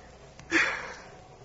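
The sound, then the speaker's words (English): A single short, wet sniffle, like someone sniffling while crying, rises and fades over a faint hiss, with a softer breath just before it and no talking. “You're crying. No, I have a cold.”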